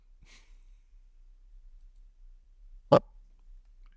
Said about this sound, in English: I hear dogs. I don't know what he is barking about, but I cannot go upstairs to find out.